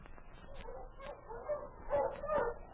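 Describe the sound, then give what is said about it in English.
A sled dog team barks and whimpers, with overlapping yips and whines from several dogs that grow louder and more excited toward the end. It is Sergeant Preston's dog team, stopped in the snow in front of Pierre's trading post during his regular patrol. “It was over a week later that Sergeant Preston stopped his dog team in front of Pierre's trading post, on his regular patrol through his territory.”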